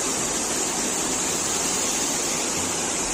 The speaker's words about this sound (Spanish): Así sonaba el agua cayendo por una de las bocas del metro en Madrid. La ciudad llegó a registrar en 24 horas más de 100 litros por metro cuadrado.